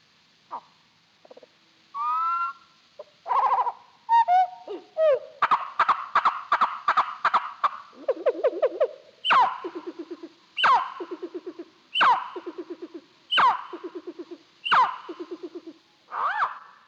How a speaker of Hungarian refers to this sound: Most egy kirepült fióka elesékkérő hangját halljuk, ezzel jelzi tartózkodási helyét szüleinek. A magas, rövid bevezető hangot egy mélyebb vibrált követi.